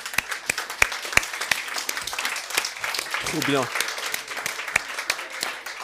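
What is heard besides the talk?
audience applause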